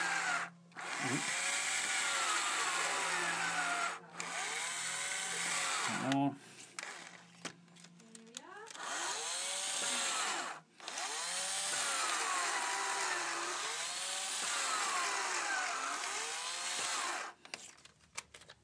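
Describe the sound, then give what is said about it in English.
A power drill fitted with a 5mm masonry bit grinds into a masonry wall with a loud, harsh whine, its pitch rising and falling as it bites and stalls over several long bursts, with brief pauses between. “Okay, so this is a 5mm masonry bit. Make sure my drill's level.”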